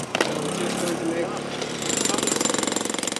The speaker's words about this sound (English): Jackhammers pound large holes into the roof and then cameras are inserted. It's a long process.